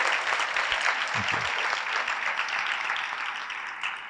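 A steady round of applause from many hands at a CMC forum, for the moderator, dense crackling claps holding at an even loudness for several seconds before tapering slightly, with no voices standing out.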